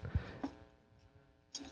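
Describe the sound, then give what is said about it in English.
A silver coin clinks a few times, fairly soft, each light metallic tap leaving a faint ringing tone that fades away, with a final clink after a short pause. “I mean, that just sounds like money.”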